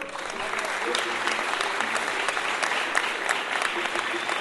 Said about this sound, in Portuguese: Opa, tá Samba do Monte, uma salva de palmas aqui.